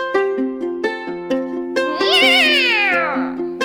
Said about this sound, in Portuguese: ¡Miau!